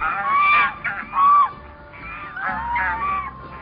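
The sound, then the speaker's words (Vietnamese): A flock of white swans honking as it flies overhead: repeated nasal, mid-pitched calls from several birds, overlapping in loud bursts with short gaps, and no one speaking. “Một ngày nọ, thái tử đang ngồi trong giường, có một đàn thiên nga trắng xóa bay ngang trên đầu.”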